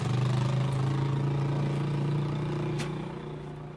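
A small truck loaded with blankets, food and medications runs its engine steadily as staff head off to one of the poorest areas of Sana'a, a low droning hum with a faint rhythmic throb, easing slightly in loudness toward the end. No voices are heard.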